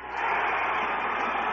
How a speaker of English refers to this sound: And there's the crowd, a standing ovation.